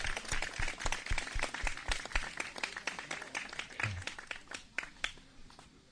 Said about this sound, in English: Okay, please give them all a big round of applause. Давайте поаплодируем им.